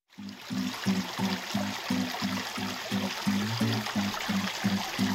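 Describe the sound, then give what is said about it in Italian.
Sea waves wash in a steady, rushing hiss that fills the whole stretch, with a low pulsing tone repeating rhythmically underneath. No voices are heard. “Sentite il mare.”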